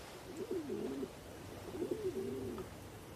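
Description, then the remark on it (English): Two soft, low coos from a pigeon standing outside a glass balcony door, each a throaty warbling phrase about a second long with a short pause between, against a quiet hiss. “The pigeon stands on the other side of the door.”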